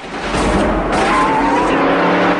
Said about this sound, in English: He roars between a couple of prison buildings and swings the car onto the exercise yard. Inmates leap out of the way as the Mustang slews around on the muddy football pitch and a guard grabs his rifle.